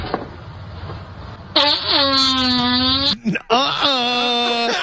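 A loud, drawn-out fart sound effect with a buzzy, steady low pitch, delivered in two long blasts split by a brief sputtering break, after a second or so of near quiet.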